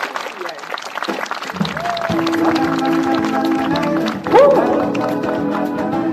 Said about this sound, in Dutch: Geef ze een warm applaus.